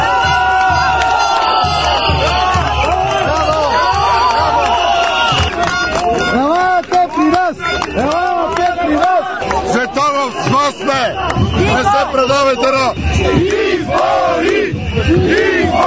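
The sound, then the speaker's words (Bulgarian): A large crowd of protesters, who came by bus, cheers and shouts together as they welcome GERB deputies led by Tsvetan Tsvetanov and Lachezar Ivanov, loud and sustained, with many overlapping voices yelling and whooping in rising bursts for the whole stretch. “Около обед при протестиращите дойдоха депутати от ГЕРБ, начело с Цветан Цветанов и Лъчезар Иванов, които бяха посрещнати като месии от дошлите с автобуси протестиращи.”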